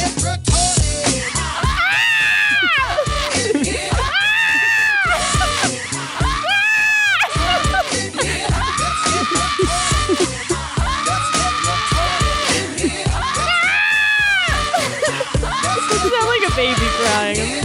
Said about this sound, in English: Baby crying.